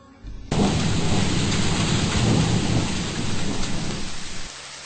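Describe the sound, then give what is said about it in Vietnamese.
A sudden heavy downpour bursts in after a quiet half-second: a loud, dense roar of rain with low thunder-like rumbling, sustained, easing slightly near the end. “Cô đi qua hết cái hang, đến bờ giếng, thì bỗng nhiên có một trận mưa rào thật to.”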